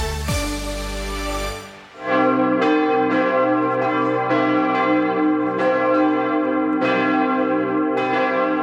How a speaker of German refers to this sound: Ja, so hat es sich am Mittag angehört in den katholischen Kirchen des Erzbistums Hamburg, zu dem auch Schleswig-Holstein gehört. Trauergeläut hier am Mariendom in Hamburg nach dem Tod von Papst Franziskus.